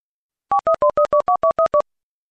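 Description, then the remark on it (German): Telephone tones from placing an outgoing call from a car stopped on the hard shoulder of the Autobahn to Silbruck: a quick, even run of about nine short, mid-pitched two-note keypad beeps, clear and steady, with no voices. “Ich fahre jetzt auf den Pannenstreifen und lüte denen an.”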